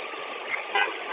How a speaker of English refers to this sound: Okay, now I have not honked my horn, but I can do that right now.